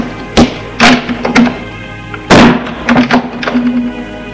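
door being closed

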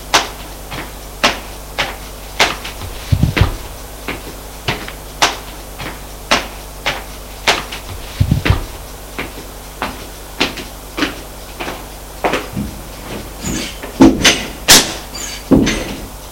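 door being opened

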